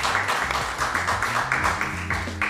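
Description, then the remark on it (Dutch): An audience applauds the first two participants with dense, steady clapping that holds at an even level for the full couple of seconds, a low tonal line running underneath. “Applaus voor deze eerste twee.”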